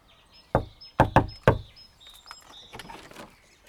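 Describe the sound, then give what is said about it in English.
Four sharp knocks on the front door of a home in Drumreilly, loud, in a quick uneven pattern, followed by quieter rustling and faint high chirps in the background. “I thought for a minute I wasn't going to get in the door”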